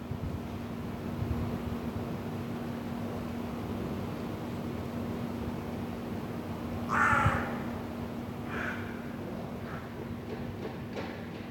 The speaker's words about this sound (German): Hier wohne ich. Das höre ich, wenn ich die Fenster öffne. Altbau-Innenhof, 1030 Wien. Seit einigen Wochen wohnen hier auch Krähen. Meistens wache ich von ihren Rufen auf so gegen 6:30. Man hört sie aber auch tagsüber immer wieder.